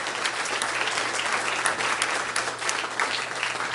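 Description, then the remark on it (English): A crowd claps hands in praise of the name of the Lord in steady, sustained applause, a dense wash of overlapping claps with a few sharper accents standing out, loud and continuous throughout with no voices on top. “I believe we can give the name of the Lord a hand clap of praise.”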